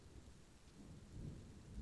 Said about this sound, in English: Yeah, we can listen to the rain together.